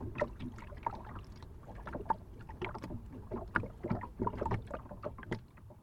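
Water laps and clucks steadily against the hull of a fishing boat at a quay in Sweden, a continuous run of small irregular splashes and knocks with no voices.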